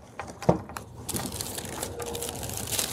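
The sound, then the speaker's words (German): Nuts are set down on a table: a few sharp clicks at first, then a steady rattle and crinkle of small hard shells being shuffled around, with no one talking. “Ich lege uns mal hier so ein paar Nüsschen hin.”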